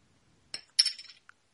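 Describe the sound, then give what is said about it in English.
A bright glassy clink and rattle, like a bottle being handled and opened, with a short burst of clattering followed by a tiny final tick, moderately quiet. “It just sounded like you were opening a bottle.”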